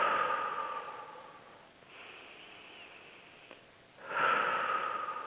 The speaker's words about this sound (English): From here, we want to breathe all the way down and in and back. And a new thing that I read recently is breathing in and sending that breath straight down.